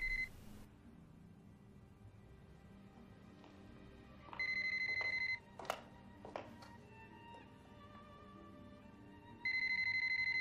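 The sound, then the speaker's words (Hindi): A phone rings with a repeated incoming call, an electronic tone sounding in steady bursts of about a second that repeat every few seconds over a low background rumble, with no one speaking. “कितना बेशर्म है, उसे कैसे जरूरत हुई तुम्हें दोबारा फोन करने की?”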